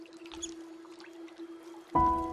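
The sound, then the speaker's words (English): Three otters chirp while foraging together in calm water past a reed bed, with faint high squeaks scattered over a steady low engine hum, then a louder tonal call near the end. “Then I hear some familiar chirps.”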